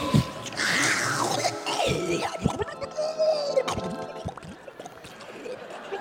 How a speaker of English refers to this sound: And what about your toilet? It's not an electric appliance. I don't think it is. I hope it's not. But people have sometimes, without thinking, they have flushed a toilet while they were sitting on it.